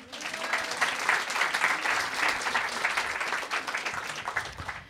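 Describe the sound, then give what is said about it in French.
An audience applauds steadily for about five seconds in answer to the host asking who likes his new mullet haircut, a dense wash of many hands clapping at an even, moderate loudness with no voices standing out. “Par applaudissement, qui aime bien mon début de mulet ?”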